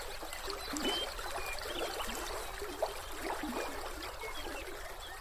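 Steady water of the Frenchman River, a meandering river flowing through grasslands, trickling and gurgling over stones, with a continuous bubbling wash and small splashy ripples throughout, no voices.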